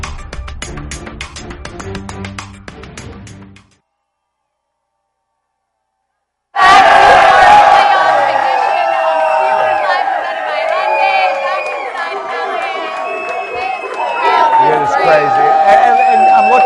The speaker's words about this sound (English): There's a crowd outside in the parking lot trying to get in.